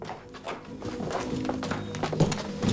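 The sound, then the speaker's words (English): Several horses' hooves clop and shuffle on hard ground in an irregular patter, with a few heavier thuds and faint rustling as cavalrymen climb off their horses. “The cavalrymen climb off their horses.”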